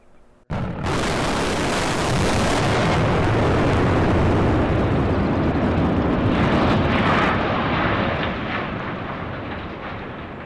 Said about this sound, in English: crews brought down the coal silo outside the Elk Creek mine. Volunteer firefighters and old coal miners watched from a distance and waited. The silence ended when dynamite ripped through the concrete tower, sending shockwaves up and down the valley.